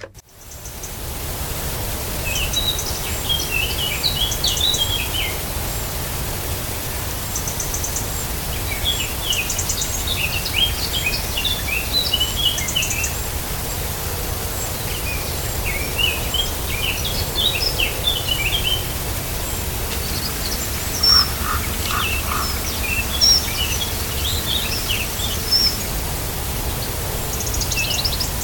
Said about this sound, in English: Yeah, so the sing-songy one, again, is the black cap. Very fluty, kind of quite excitable, kind of fast pace.